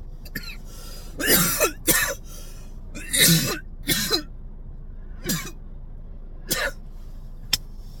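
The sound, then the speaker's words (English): Repeated harsh coughing and throat clearing, about seven bursts of varying strength spread over several seconds with short pauses between, no talking. “We're coughing up lungs over here.”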